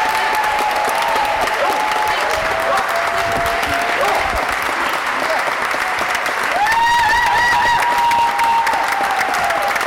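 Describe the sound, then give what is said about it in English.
A large crowd of advocates in the New York State Senate chamber bursts into sustained, loud applause for the senators who voted for the GENDA bill, dense clapping mixed with cheers, whoops and a few high sustained shouts rising over it, continuing steadily throughout. “The chamber, filled with advocates who'd worked for many years to pass this bill, erupted into loud cheers and a long-standing ovation for senators who voted for the bill.”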